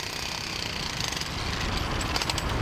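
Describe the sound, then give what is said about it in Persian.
Dense, continuous city noise in central Islamabad, Pakistan: a steady rumble of engines and traffic with rapid, rattling construction hammering on top, loud throughout with no clear voices. “مرکز شهر اسلام آباد پر از ترافیک، ساخت و ساز و هیاهوی زندگی روزمره شهری است.”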